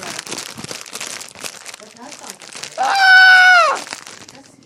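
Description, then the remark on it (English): A caramel corn (caramel nut crunch) snack bag crinkles loudly and continuously, a dense plastic crackle lasting a few seconds, then a voice briefly lets out a high, sustained note over it. “That's the loudest bag.”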